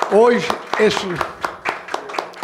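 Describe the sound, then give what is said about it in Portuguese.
Steady, crisp hand claps in tribute to Fortaleza goalkeeper Marcelo Boeck repeat about four times a second, sharp and distinct rather than a dense roar, with a voice speaking over the first second. “Eu queria uma salva de palmas ao nosso Boeck, Marcelo Boeck.”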